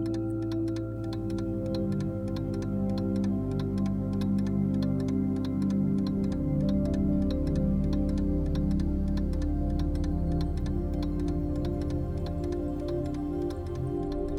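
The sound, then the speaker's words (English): A clock ticks steadily and evenly throughout, each crisp tick distinct over a low, warm droning background hum, with no voices present. “From there, you can hear the ticking of a clock.”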